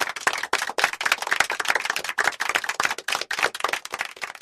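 Loud applause from a crowd, a dense, steady crackle of many hands clapping that carries on without a break for several seconds, with no voices over it.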